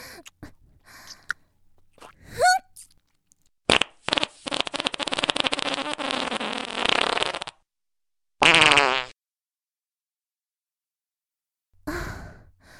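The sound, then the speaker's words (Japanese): A woman's long, loud, sputtering fart rumbles for several seconds, followed by a shorter burst, with breathy sighs before and after. “こんなに大きなおならをしたのは初めてだわ。”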